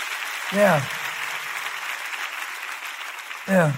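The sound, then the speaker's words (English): An audience claps steadily throughout in a dense, even wash of applause, with a brief voiced shout rising over it near the start and again at the end. “Clap your hands about it.”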